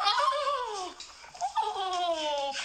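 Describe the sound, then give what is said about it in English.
A woman lets out two loud, drawn-out screams as a dog steps on her hair, each sliding downward in pitch, with a brief gap between them and no talking. “This is the dog stepping on my hair.”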